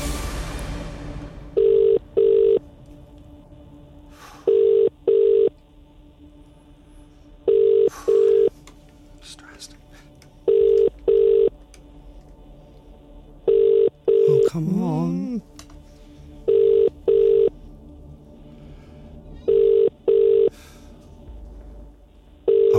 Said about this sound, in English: Phone. Please, I'm begging you. It's gonna ring out. Why would you not? Maybe they're just taking their time. Plucking up the courage.